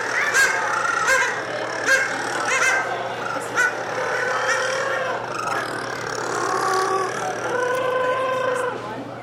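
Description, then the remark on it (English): A colony of rockhopper penguins in full cry: many raucous, braying and honking calls overlap without pause, rising and falling in pitch over a steady low hum. “You go to a penguin colony, it's like combines the ambience of a heavy metal rock concert in a cow barn.”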